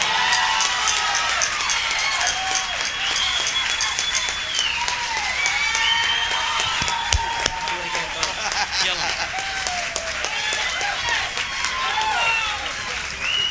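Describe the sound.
A crowd applauds steadily for the whole stretch, dense overlapping claps at an even loudness, with cheering voices and shouts rising and falling above the clapping.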